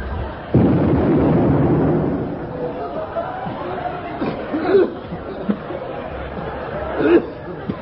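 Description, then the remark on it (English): A gun fires with a sudden loud blast, and a shell crashes through an office in a rumbling burst lasting over a second, followed by murmuring voices and scattered smaller knocks. “It's gone smack bang through number one's office.”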